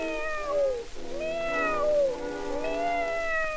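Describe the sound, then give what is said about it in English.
A cat meows three times in a row, each call long, drawn-out and rising then falling in pitch, loud, with no other sounds around it. “I've got here a little pussy cat for what goes.”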